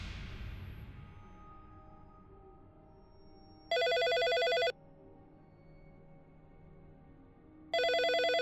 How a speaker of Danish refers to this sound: Samme nat ringer telefonen